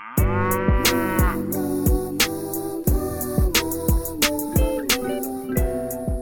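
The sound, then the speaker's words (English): A bouncy, loud pop beat with punchy, regular drum hits and bright synth chords, while a female singer drawls long, sliding moo-like notes that mimic a cow, in a 2018 joke song. “her song …, which was kind of a joke song where she dressed as a cow in a homemade music video”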